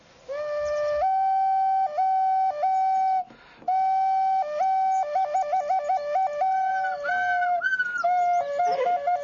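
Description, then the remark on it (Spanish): Clay whistles play clear, breathy tones, first long held notes with stepwise pitch jumps, then quick fluttering trills and warbles, loud and steady with no talking. “Llevaré estos bastones con pirograbados y estos silbatos de arcilla.”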